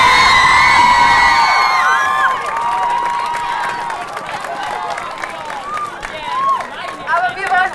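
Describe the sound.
A large crowd bursts into loud applause mixed with shrill cheers and whoops, a dense wash of clapping with high voices rising over it, continuing steadily throughout.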